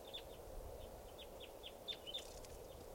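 A bird by a camp calls with a quick series of thin, high chirps, around eight or nine short notes in an uneven rhythm, rising over a steady background hiss with no one talking.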